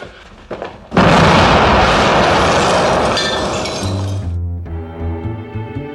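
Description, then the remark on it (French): A sudden, loud explosion bursts in after a second of quieter sound, followed by a few seconds of crackling, shattering debris that slowly fades. Low, steady musical tones take over at the end. “Si t'as des volontés à exprimer, une prière que t'aimes bien, ou un mot historique à balancer, mène-toi, ça va péter dans 15 secondes.”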